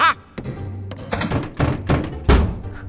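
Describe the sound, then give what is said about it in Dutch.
A heavy door leading outside thuds several times in quick succession, dull knocks and bangs with a rumbling low end, ending on one louder final thump. “Daar is de deur naar buiten.”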